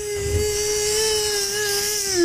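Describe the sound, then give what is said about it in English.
A voice makes a steady, sustained buzzing "zzzz" for about two seconds, imitating a drone that flew past while walking along the ocean near Marina Del Rey, with a slight rise and fall in pitch and a hiss underneath. “And we walked, while we were walking along the ocean, I heard a zzzz.”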